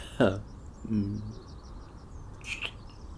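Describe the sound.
Faint birds chirp outdoors in a quick series of small, repeated tweets in the background, while a soft voice makes a couple of brief sounds up close.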